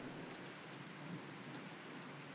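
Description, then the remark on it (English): Steady rain patters in a dense, even hiss with no letup, a soft continuous wash of drops falling on blood-soaked clothing, with no voices. “The patter of rain on my blood-soaked clothing, the final thing I heard before it all faded away.”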